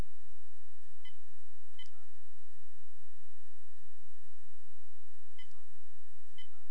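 A few short touch-tone keypad beeps from pressing star five on a group phone call sound at irregular intervals, two early and two later, over a steady background hum and line hiss, with no one talking.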